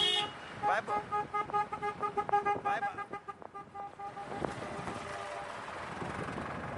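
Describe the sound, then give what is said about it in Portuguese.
Many vehicle horns honk in repeated overlapping bursts, loud, with steady traffic rumble and wind underneath as a long line passes: a protest motorcade of cars, tractors, trucks and motorcycles, 8 to 10 kilometres long, travelling on the BR-163 highway through the town centre of Guaíra, Paraná, Brazil. “uma fila aí de 8 a 10 quilômetros de carros, tratores, caminhões, motos, participando dessa carreata.”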